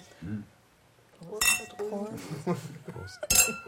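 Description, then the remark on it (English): Glasses clink together twice in a toast across a table, bright ringing taps, with people talking around them. “Zum Wohl, sehr freut Gesellen.”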